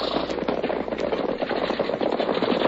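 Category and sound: sound effect, gunshots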